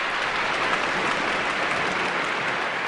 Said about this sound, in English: That applause, of course, was for the ballet at the Paris Opera, but also for Tom Burgess-Watson, our man who brought us up to date for what's happening in Paris.